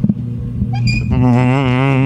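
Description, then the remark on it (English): A steady, low droning aircraft engine rumble that holds throughout, joined after about a second by a louder, wavering high-pitched whine layered over the drone. No one speaks. “I think they might be trying a new aircraft to do it.”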